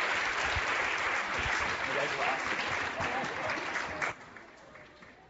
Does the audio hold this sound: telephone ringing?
no